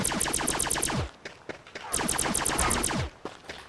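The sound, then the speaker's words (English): Video game gunfire aimed at dogs that take five shots to kill rattles out in two rapid bursts of about eight sharp, evenly spaced shots each, separated by a short gap, with a few single shots trailing after. The shots are loud and no one speaks. “So the dogs take 5 shots to kill.”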